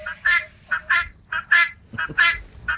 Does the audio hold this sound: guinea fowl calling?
yes